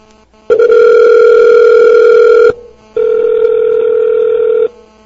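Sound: phone call dialing tone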